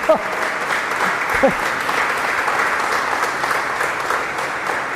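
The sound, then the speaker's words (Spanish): Steady, loud crowd applause for Pope Francis fills the whole stretch, a dense wash of clapping with a few brief voices or cheers rising over it near the start. “Un aplauso a Papa Francisco, ¿eh?”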